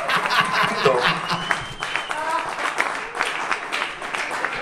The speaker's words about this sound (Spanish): ¡Qué bonito! ¡Fin! ¡Fuerte aplauso!